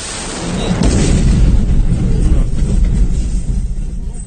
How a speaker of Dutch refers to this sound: Zware Russische aanvallen op Oekraïne. Explosies in het hele land. Rond 8 uur vanmorgen, tijdens de ochtendspits, vallen in Kiev de eerste bommen.